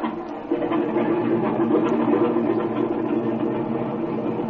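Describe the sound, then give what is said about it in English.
A light aircraft engine is run up on the ground before takeoff, its steady droning roar swelling after a brief moment and then holding loud. “Oh, by the way, I want to run up the engine again before we take off.”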